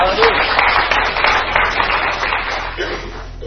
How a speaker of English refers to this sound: Well, she got it. Y'all ought to clap too. Praise God.